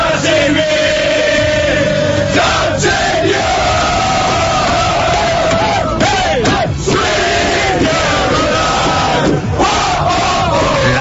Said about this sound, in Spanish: Esta es la celebración de los austriacos metidos en el autobús.